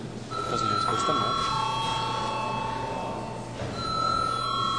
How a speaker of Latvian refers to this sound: es lūdzu zvanu.